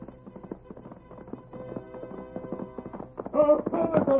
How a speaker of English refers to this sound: Look, there he comes. He's riding back. Look at that horse come. Look at the Lone Ranger ride.